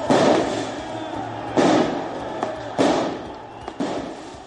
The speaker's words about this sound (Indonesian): Beberapa tembakan dilepaskan di Paris, mengeluarkan asap tajam ke udara, sementara para pengunjuk rasa meluapkan kemarahan mereka terhadap undang-undang keamanan yang akan membatasi publikasi wajah polisi.